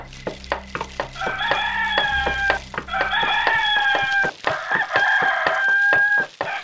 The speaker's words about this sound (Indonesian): Dan ayam jantan pun berkokok bersautan. Tanda fajar telah menjelang.